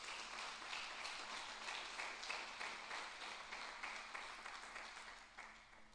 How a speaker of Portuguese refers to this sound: Se você crer, dá mais uma salva de palmas a ele.